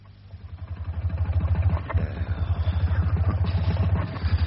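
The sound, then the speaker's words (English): A wood-fuelled car engine, running without petrol, chugs roughly, its low, uneven pulsing growing louder and then sputtering on as if about to stall, with no voices. Ash from the wood fuel clogs the air filters, forcing the car to keep stopping. “It's this wood fuel, Prisoner Bonhoeffer. No petrol. The ash clogs up the air filters, so you just have to keep stopping to clean them out.”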